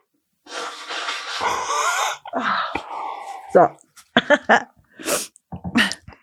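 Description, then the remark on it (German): A loud, breathy sneeze into a microphone bursts out with a hissing spray of noise, followed by several short, sharp vocal bursts and snorting breaths. “Bitte nächstes Mal auch ins Mikrofon niesen. Das gibt einen besseren Ton.”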